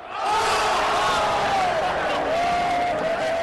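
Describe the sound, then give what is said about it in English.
An arena crowd roars in a loud, sustained wave of cheering after newly acquired Randolph finishes an alley-oop with a dramatic slam dunk in a game against the Lakers, with individual whoops and shouts rising out of the dense wall of noise. “Against the Lakers, the newly acquired Randolph thrills the crowd by finishing off an alley-oop with a dramatic dunk.”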